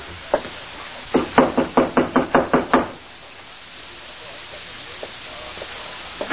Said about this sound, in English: Number 9. Go ahead, Temple. Knock.